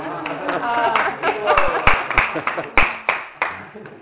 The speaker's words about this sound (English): You are clapping? Yes, for him.